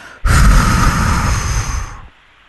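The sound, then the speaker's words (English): A single forceful, breathy exhale during a deep breathing exercise, starting abruptly and rushing steadily for nearly two seconds before cutting off. No one speaks during it. “You can actually count 1, 2, 3, 4, 5, 6, 7 on the inhale, the same as you exhale, but on the exhale, you do it forcefully like this.”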